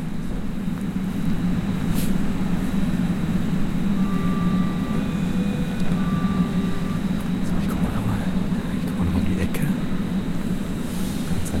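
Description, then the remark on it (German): An S-Bahn commuter train rumbles steadily at a station, its deep drone filling the scene with faint electric whines rising over it, loud and continuous throughout without pause. “Na, ich warte mal noch, bis die S-Bahn weggefahren ist.”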